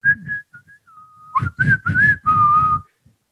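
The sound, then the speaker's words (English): The PC Richard and Sons whistle jingle played at a stadium: a few short clear notes, a long held tone, then the melody continues louder over bursts of loud crowd noise before cutting off. “So, for example, my number five, the PC Richard and Sons whistle.”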